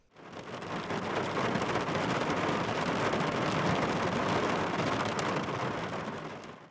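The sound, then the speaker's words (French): Heavy rain pounds on a car windshield in a dense, steady drumming that swells in quickly and holds constant before easing off at the end. Loud, with no voices. “La pluie tapait fort contre le pare-brise.”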